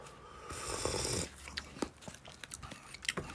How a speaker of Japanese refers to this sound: はい、では咀嚼音がしますので、いただきます。はい、ご注意ください。